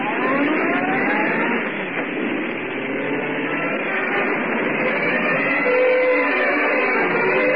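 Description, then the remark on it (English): A car engine roars steadily, its sustained motor noise filling the scene with a continuous rush as the car speeds along without pause, following the Hornet. “Get going, Cassidy. Step on it. Don't let him out of your sight.”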